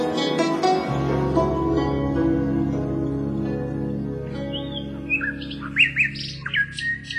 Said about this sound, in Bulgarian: Господ Бог ли те праща, моя малка птичко? Само ти не си ме забравила в сетния ми час. Попей, Славичко. Ти стоплиш ледената ми душа.